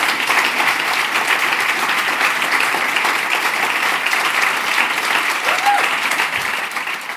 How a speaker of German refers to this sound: Ein herzlichen Applaus für die vier jungen Grosstalente.